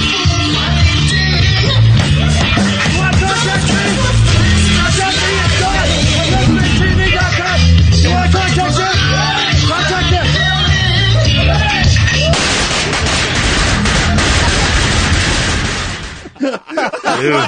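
Fireworks go off indoors in a studio the size of a kitchen: a loud, continuous barrage of bangs, pops and crackles for about twelve seconds, then a hissing roar that fades away, with shouting mixed in.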